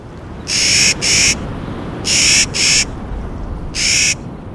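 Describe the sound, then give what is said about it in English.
Harsh, gruff calls of a Clark's Nutcracker ring out loud, five raspy bursts in all, two quick pairs followed by a single call, over a low steady outdoor rumble with no voices. “These gruff calls belong to a bird discovered 200 years ago near present-day Kamiyai, Idaho.”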